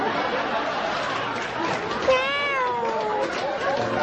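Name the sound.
cat meowing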